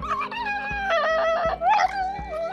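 A dog whines and moans in a long, wavering, talk-like stream of high-pitched vocalizing, fairly loud, with pitch sliding up and down and no other voices.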